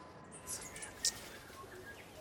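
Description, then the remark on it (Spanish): Several brief, high-pitched chirps from a hihi (stitchbird), an endangered bird native to New Zealand, spaced irregularly over a soft, steady background hiss, with one sharper note near the end. The calls sound fairly faint. “El pájaro jijí está volviendo, lo han escuchado.”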